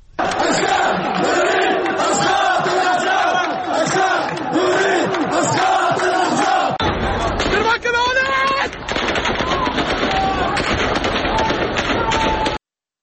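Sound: protest crowd chanting slogans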